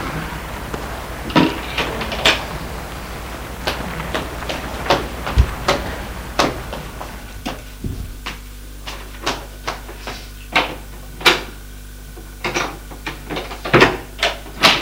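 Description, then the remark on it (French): A man opens a wardrobe, pushes someone inside, shuts the door and locks it with a key: a run of irregular wooden knocks, clicks and thumps, with no voices. “L'homme ouvre une armoire et le pousse dedans. Ferme la porte à clé.”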